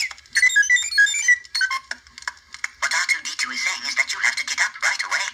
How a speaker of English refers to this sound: And the way we did that was we had these little C3PO alarms that made this unbelievably grating sound.